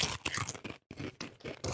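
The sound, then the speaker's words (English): Crunching of Japanese curry-flavored potato chips being chewed, a rapid series of loud, crackly bites with a brief pause partway through, then more crunching. No one speaks. “All right, let's crunch it off.”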